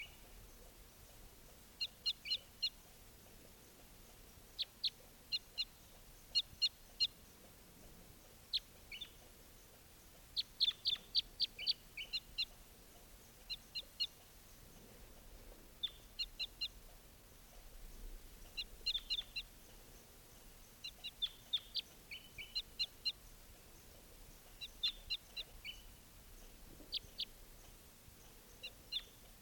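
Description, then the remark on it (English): Repeated high, sharp bird chirps at dusk, as it is getting dark, in short bursts and clusters over a low, steady background hum, continuing throughout with no voices. “So recording just captured that bird, and he'll be number 621.”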